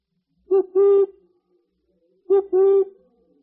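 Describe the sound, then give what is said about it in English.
A voice, Toad's, imitates a motor car horn twice, each time a short hoot followed by a longer, steady, mid-pitched honk, with a pause of about a second between the pairs. “I think he thinks he's the motor car.”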